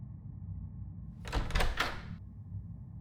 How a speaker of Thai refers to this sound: ผมรีบวิ่งไปตามทางเดินและผลักประตูบานนั้นให้เปิดกว้างโดยไม่สนใจเศษไม้บนประตูที่ตำเข้าที่มือ